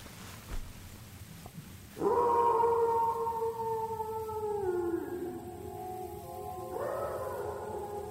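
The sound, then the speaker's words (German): A long, drawn-out dog howl rises suddenly and holds steady, slowly sliding down in pitch before a second howling voice joins near the end, over faint background rumble, outdoors in cold weather. “Sind das Wölfe? Da ist einer.”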